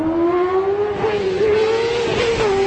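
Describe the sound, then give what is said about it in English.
A motorcycle engine revs loudly. Its buzzing drone holds a steady pitch that climbs slightly and wavers, with no voices present. “brought to you by Non-Biker People for Bikers. Don't you hate this sound?”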